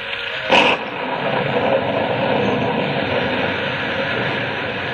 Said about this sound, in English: It's pouring down rain.